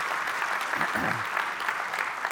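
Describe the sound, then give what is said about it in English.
A church audience claps for the guest preacher's wife in a steady, dense wash of applause, with a brief murmur of voices partway through before the clapping carries on evenly to the end. “And so, yeah, clap for her.”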